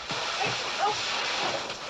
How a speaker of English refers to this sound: From the tap, jettisoning Mike into the others. Mike fights against the gushing cannon of water, trying to reach the tap.